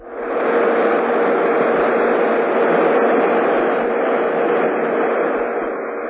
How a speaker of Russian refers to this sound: Его тоже можно слышать. Но слышит его антенна аппарата реометра. Сейчас она стоит вертикально, направлена в зенит. Вы слышите так называемый белый шум, говорит сам космос.